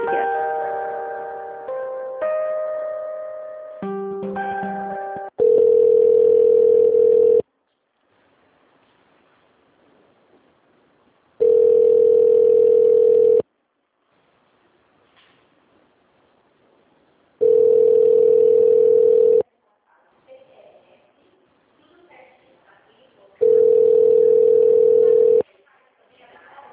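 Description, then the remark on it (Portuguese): A telephone ringback tone, heard while calling a company's extension, sounds four times, each steady buzzing ring lasting about two seconds with quiet gaps between, after a brief run of shifting electronic beeps at the start. “Deixa eu só terminar de falar aqui, que eu tô ligando pra empresa pra verbar.”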